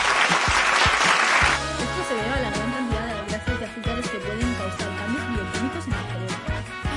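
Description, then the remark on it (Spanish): An audience bursts into loud, dense applause for a special guest for about a second and a half, then it cuts off abruptly as music with a steady bass line and a talking voice take over. “Un aplauso para”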